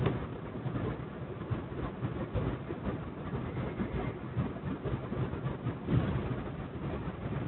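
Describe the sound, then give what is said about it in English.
A car engine hums steadily while driving to work on a Sunday morning, a continuous low rumble with road noise and no talking, fairly even in loudness. “Car's operating pretty good.”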